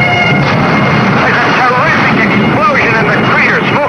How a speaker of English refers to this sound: There's one jet that seems to be making a pass. It's coming in low now. It's fired a rocket.